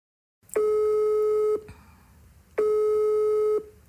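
An outgoing phone call's ringing tone: two steady, buzzy electronic tones, each about a second long with a one-second pause between, clear with no voices.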